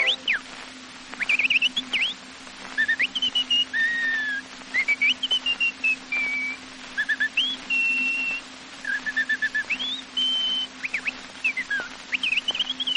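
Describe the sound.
A person whistles an imitation of a chaffinch's song: bright phrases of quick chirps, trills and sliding notes, repeated steadily over a faint constant low hum.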